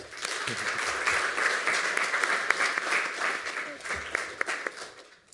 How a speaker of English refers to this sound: And I think that's a new record at 2 minutes and 29 seconds. So give him a round of applause for that.